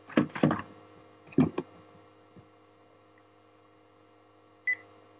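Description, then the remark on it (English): Short electronic phone dialing tones come in quick clustered bursts near the start, then one brief, thin beep after a pause, all over a faint steady hum with no talking. “Get ready for a call while I look to see.”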